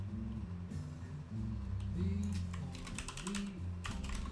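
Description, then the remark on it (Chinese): Computer keyboard typing and mouse clicking during a microphone test, with a Magnus microphone placed between the keyboard and the speaker, bursts of sharp taps arriving in irregular clusters over a steady low tonal background, with no one speaking. “那你们可以仔细听一下，就是键盘敲击声跟那个点滑鼠的声音。”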